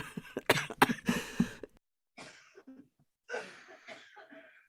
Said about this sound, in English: See, you made me laugh, and then I really did have to cough.